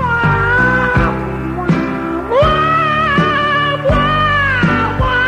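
A cat yowls in long, wavering meows that rise and fall like a melody, set over a loud musical backing with a steady, regular beat, as if singing along.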